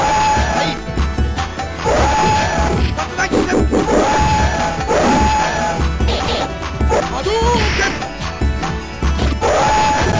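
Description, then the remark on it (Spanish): Retro arcade fighting game audio from Street Fighter 2, the fight against Dalsim, from the CPS-1 arcade board in an emulated version: loud, constant, with repeated smashing hits and thwacks over a bright looping music track, plus a few rising trumpet-like elephant calls in the background. “De hecho, me he tomado la libertad de capturar un fragmento de la pelea contra Dalsim, una de las primeras en Street Fighter 2, para que escuchéis cómo se oyen los elefantes.”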